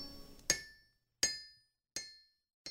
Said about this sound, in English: At my feet, my father's anvil, his striking song of steel on steel, still hammering home.